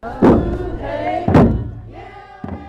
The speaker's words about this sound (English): At Celebration, waiting has a sound of drums, of voices raised in songs of welcome.